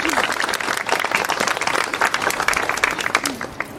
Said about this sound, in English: Wonderful, wonderful. Thank you very, very much. Another round of applause for the girls from Mercedes High School.